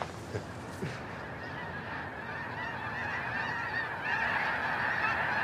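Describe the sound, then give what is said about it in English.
A huge flock of thousands of snow geese that landed on the waters of the Berkeley Pit honks continuously, hundreds of overlapping calls blending into a dense, steady clamor that swells slightly louder toward the end, with no voices present. “Now the thousands of snow geese that landed in the dangerous waters of the Berkeley Pit.”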